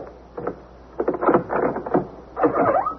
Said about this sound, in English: Next thing I knew, I was upstairs, knocking on Katie's door.